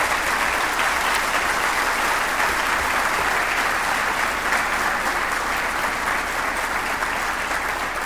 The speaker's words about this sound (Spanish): Otorgamos un fuerte aplauso a todos.